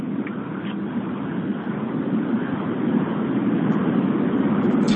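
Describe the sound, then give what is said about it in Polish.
A steady, dense rumble of road and engine noise from inside a moving car driven by a caller, band-limited and muffled by the phone line it is heard over, continuous for the whole stretch with no voices. “tylko zdaje się, że jedzie pan samochodem i tak troszeczkę nam ten szum przeszkadza w słuchaniu.”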